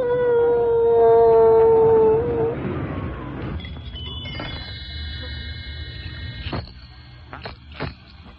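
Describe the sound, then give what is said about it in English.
A dog howls in a single long, steady, mid-pitched note that sags slightly at the end, lasting about two seconds, followed by quieter clattering and thin high ringing tones. “Dance and howl.”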